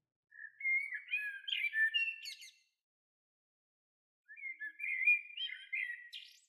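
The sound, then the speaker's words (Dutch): A blackbird sings two clear, warbling phrases of fluty notes and twitters, separated by a short pause, distinct against an otherwise silent background. “Het is een merel.”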